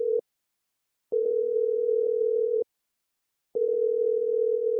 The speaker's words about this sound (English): He picked up his phone and dialed a number. The phone rang around 6 times before he heard the message tone of his old friend, now a history professor at the University of Lucerne.